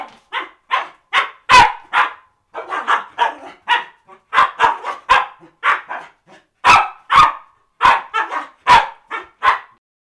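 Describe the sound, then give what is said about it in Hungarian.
A dog barks repeatedly in quick, excited bursts, loud, with short yips mixed in and brief pauses between flurries, while playing with its owner. No one speaks. “Tehát ugye vannak további szituációk, játék közben valamit a gazdának kergetőzni, vagy birkózni kellett a kutyával.”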